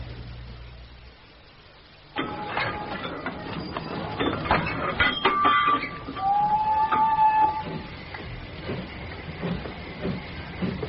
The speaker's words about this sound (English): But then we're on the train, boats and all, heading north. Bulawayo, Elizabethville, Fungurume. 2,500 miles, most of which us ratings spend perching top of the boats, beating out sparks from the engine.